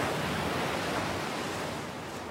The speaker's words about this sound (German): Überall um dich herum sind die Geräusche des Meeres und der Möwen. Friedvoll und rhythmisch.